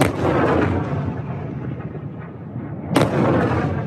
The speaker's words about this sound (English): China has been amassing large formations of planes and ships all around Taiwan, and now the shooting has started, so these are live fire drills. It responded to the visit with 4 days of military exercises, which blockaded the main island of Taiwan.